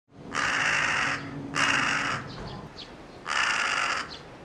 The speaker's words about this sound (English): Today we heard a couple of crows making a lot of noise near our house.